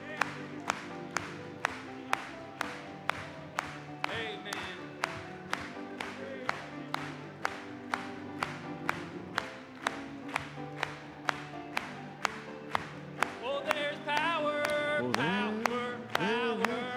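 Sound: audience applauding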